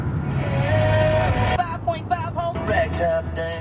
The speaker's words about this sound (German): wir hören hier ein Autoradio, das plärrt. Wohin fahren wir? Wir fahren nach Green Bank in West Virginia.